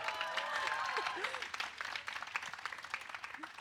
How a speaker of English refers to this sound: give a cheer for it. It's amazing.